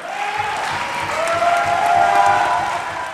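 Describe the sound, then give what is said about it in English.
Loud, sustained applause from a large crowd of Democrats, dense clapping that swells and holds steady for the whole stretch with a few cheers mixed in, greeting Evers's announcement of a nonpartisan redistricting commission. “Evers said, to uproarious applause from Democrats, that he would be directing the Elections Commission and the Department of Transportation to”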